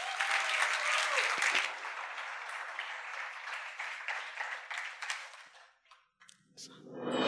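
An audience applauds to welcome a peace activist speaker from Nigeria for the last session, a steady, dense wash of clapping that starts loud, gradually thins and fades over several seconds, then trails off with a faint low rumble at the end.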